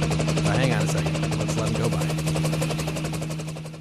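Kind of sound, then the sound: vehicle, helicopter flying overhead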